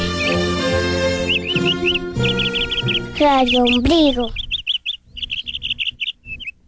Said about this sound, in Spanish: El que siembra arbolitos cosecha pajaritos. Bio, bio, bio, bio, bio.